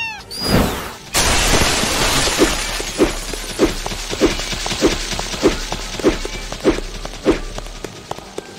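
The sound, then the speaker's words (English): A video game wall being destroyed: a short electronic tone, then a loud crumbling crash and a steady run of rhythmic thuds over a rattling, gritty debris wash. “Destroy the wall in front of.”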